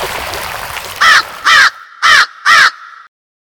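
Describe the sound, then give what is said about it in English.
A great blue heron standing nearby at Sycamore Shoals, a rocky stretch of rapids on the Watauga River, gives four harsh, raspy calls in a steady, evenly spaced rhythm, loud against a low rushing background that drops away partway through. “A great blue heron standing nearby answered.”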